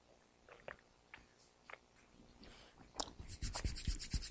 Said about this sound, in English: I'm going to need a lot of water this morning. I'm so nervous. And you know, when you're nervous, your mouth gets dry. Any testimonies about that here this morning? So let me just take a sip, and then we will run God's word.